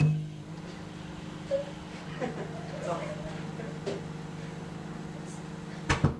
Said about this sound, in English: About to start the microwave, and I'll put the tape recorder right at the side of the microwave, very close to it, so that I won't have to hold it and be close. You big chicken! Starting the nuclear power now.